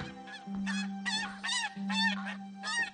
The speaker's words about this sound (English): In the living room, Otis approaches a family of ducks.